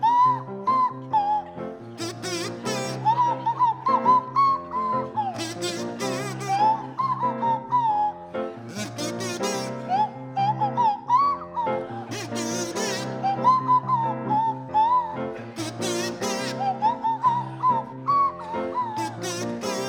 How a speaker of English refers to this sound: to feature Tony Hawks on the kazoo and Tim Brooke Taylor on the Swanee whistle.